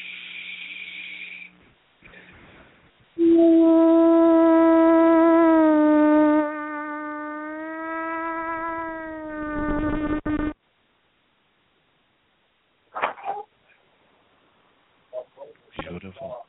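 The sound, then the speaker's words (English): A voice does vocal toning over the phone on a radio show. It sings long, steady, sustained low tones, loud and buzzy with rich overtones, holding one pitch for several seconds, then sliding slightly lower and wavering before stopping abruptly, with brief sounds before and after. “Would you do a little bit of toning, please?”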